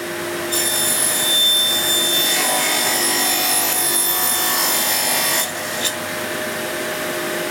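In a cellar, a panel saw cuts wood for a squirrel feeder alongside a whirring vacuum extracting sawdust and dust, making a loud, steady, high-pitched whine with ringing overtones for about five seconds before the cutting noise drops away. No one speaks.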